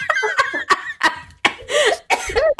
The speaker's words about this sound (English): Stop it. You're making me cough choke laugh.